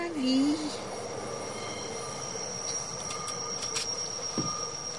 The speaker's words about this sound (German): Der nächste fährt bereits 20 Minuten später. Man begrüßt sich. Dieser kommt von oben. Und so geht es weiter. Dieser Zug taktet mein Leben. Er gehört zum Inventar.